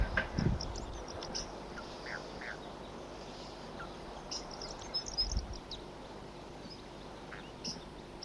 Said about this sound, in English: Here comes a flock, and there are the wild birds here. Wild.